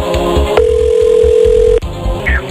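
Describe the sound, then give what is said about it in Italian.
A single steady telephone ringing tone sounds for about a second as a call home is placed during a television quiz show, over a bed of rhythmic background music, with no talking. “Adesso telefoniamo. Stanno chiamando lui, attenzione.”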